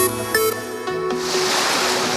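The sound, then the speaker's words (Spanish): A short tonal musical flourish gives way to the steady, rushing wash of sea waves breaking, loud and continuous to the end with no voices. “El verano suena diferente. Suena a mar, a sobremesas sin reloj, a noches que se alargan.”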